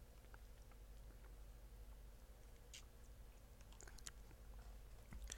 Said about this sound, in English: Let me take a sip here.